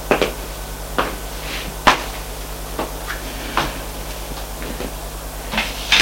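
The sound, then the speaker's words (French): A series of sharp wooden knocks and clunks, spaced about a second apart at an uneven pace, like rapping on a door and then handling it open, over a faint low hum. “Frappe et entre.”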